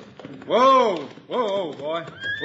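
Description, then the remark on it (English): A horse, ridden into town by Hickok, whinnies in two drawn-out, rising-and-falling cries, with faint clip-clopping hooves tapping steadily underneath and a high tone trailing in at the end. “Look, here comes Hickok now, riding into town.”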